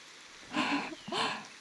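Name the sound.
rain falling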